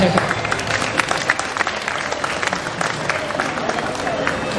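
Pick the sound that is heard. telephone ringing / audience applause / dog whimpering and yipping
audience applause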